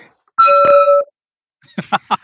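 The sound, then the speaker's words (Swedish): A Tibetan gong rings: a bright, bell-like metallic ring with several sustained overtones holds for about half a second before stopping, followed after a pause by a few short bursts of voices. “Tibetanska gånggångar.”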